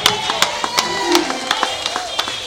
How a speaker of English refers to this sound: Come on, give these men a big hand clap. Amen.